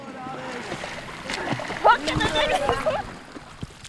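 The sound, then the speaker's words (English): Water splashes and sloshes as children leap, dive and swim in a river in Verret, 50 miles north of Port-au-Prince, shouting and calling out, their high voices carrying over a steady outdoor wash of moving river water. “Children leap, dive, and swim in a nearby river.”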